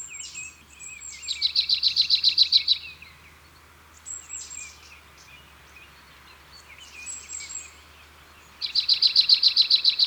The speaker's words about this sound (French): En lisière des bois plutôt qu'en forêt, voici sa petite cousine, la mésange nonnette. Comme souvent chez les mésanges, son chant est une répétition d'un motif simple. Et c'est souvent tié tié tié tié tié, comme ici.